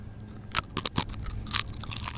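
Loud, crisp crunching of potato chips being chewed, a handful of sharp bursts in an uneven rhythm over a low steady hum, with no talking.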